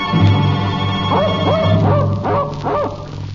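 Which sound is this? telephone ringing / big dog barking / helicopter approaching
big dog barking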